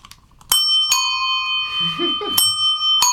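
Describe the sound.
A solid bicycle bell, a model called the Ding Dong, is rung four times at an uneven pace, each strike loud with a bright metallic tone that rings on. A voice briefly murmurs between the rings.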